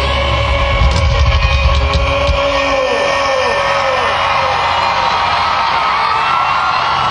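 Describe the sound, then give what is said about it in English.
A dense, loud rock and roll concert crowd cheers and yells continuously for a hard rocking band with a violinist, with whoops and shouts rising over a steady roar that holds for several seconds without letting up. “Man, this is definitely a rock and roll crowd. They're liking this stuff.”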